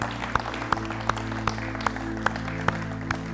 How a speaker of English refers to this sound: Amen. Can we give him a clap offering this morning?